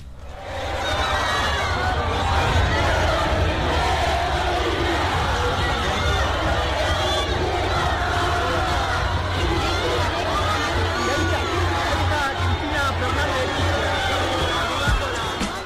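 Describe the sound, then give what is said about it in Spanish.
A large, excited crowd of Kirchnerist supporters shouts and cheers continuously as the plane of former Argentine president Cristina Fernández lands in Buenos Aires on Monday night. A dense wall of overlapping voices and yells with a steady low rumble underneath, loud throughout. “Con gritos y un emocionado grupo de kirchneristas expectantes, en la noche del lunes aterrizó en Buenos Aires el avión de la expresidenta de Argentina, Cristina Fernández.”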